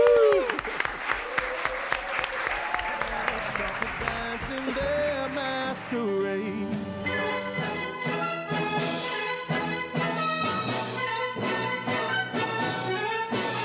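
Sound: strong audience applause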